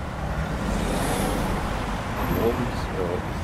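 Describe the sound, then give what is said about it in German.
Steady, loud road traffic on Wandsbeker Allee in Hamburg with a deep low rumble of heavy trucks rolling past, forming a continuous wash of engine and tyre noise with no pauses. “Werde jetzt nur mit LKW. Ab 4 Uhr ist die Hölle, wenn ich bis dahin nicht eingeschlafen bin, passiert bis 9 Uhr nichts mehr.”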